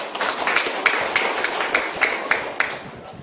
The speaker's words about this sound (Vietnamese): Dũng cảm số 1: hôm nay tôi gan dạ rời khỏi gia đình về chùa ở 1 tuần. Cái này giỏi không? Cho tràng pháo tay.